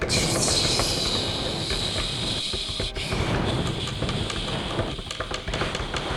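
A steady, loud roar of heavy rain from a thunderstorm, with a bright hiss on top and a dense low rumble beneath, continuous for the whole stretch with no voices.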